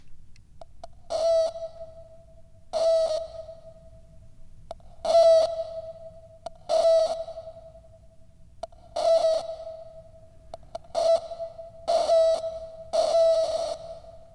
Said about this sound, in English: But my teapot's making weird sounds here.